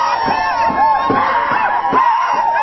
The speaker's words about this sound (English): Again, hundreds of people in the road yelling, screaming.